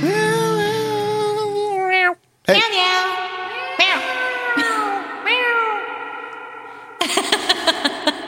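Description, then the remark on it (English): A cat's drawn-out, wavering meows rise and fall in a choppy, laugh-like series, loud, with a brief gap and a burst of rapid, stuttering cries at the end. “The laughing kitty fell down the well.”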